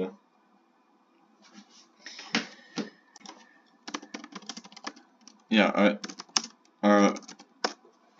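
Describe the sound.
Rapid, forceful keyboard typing with dense clusters of sharp clacks in irregular bursts, briefly interrupted by a couple of short spoken words.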